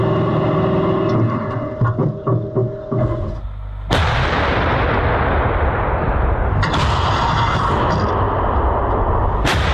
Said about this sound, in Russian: Экипаж еще не знает, что вновь ведет огонь по российскому орудию Д-20.